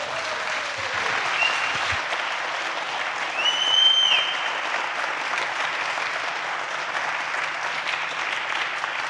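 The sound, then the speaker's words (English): Sustained applause from a large crowd at an event, clapping for the event's infrastructure team, fills the whole stretch, a dense steady roar of clapping with a few whistles rising briefly above it. “So please give a very, very, very loud applause to the MCH 2022 infrastructure team.”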